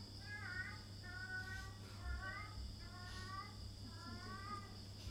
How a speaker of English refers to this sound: What is that? The cat. The same one. Yes. He's trying to chant the holy name.